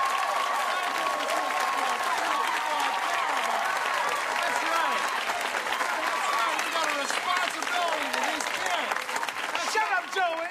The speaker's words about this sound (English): They're not cheering for you. They're cheering for me.